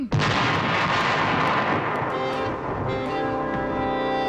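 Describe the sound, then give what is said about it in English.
A dense, roaring barrage of gunfire and artillery booms from American troops attacking Lord Cornwallis's British forces in a Revolutionary War scene, loud and continuous with sharp cracks scattered throughout, while a low drone of English horns emerges underneath toward the end. “Gunfire.”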